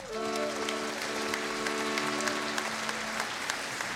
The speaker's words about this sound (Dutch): Over pianisten gesproken, dames en heren. Mag ik echt een heel groot applaus voor de man die nu achter de vleugel zit.